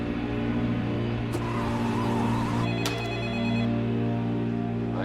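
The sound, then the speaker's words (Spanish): A telephone rings again, steadily, with a bright, warbling electronic tone, heard alone without speech over a low humming background. “Llaman de nuevo.”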